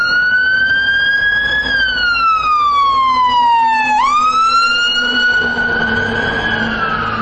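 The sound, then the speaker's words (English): A loud emergency vehicle siren wails continuously, its bright tone gliding slowly downward, then abruptly jumping back up and holding high, with a steady rumble of traffic beneath and no talking. “Well, that siren will be a good test for our limiting capabilities on the Olympus.”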